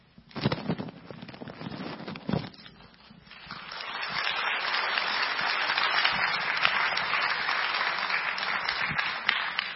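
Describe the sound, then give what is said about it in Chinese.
An audience breaks into applause welcoming the day's speaker, a pastor, after a prayer: a few scattered claps at first, then swelling into steady, sustained clapping from a large crowd until the end. “好，接下来让我们用最热烈的掌声来欢迎我们今天的讲员，”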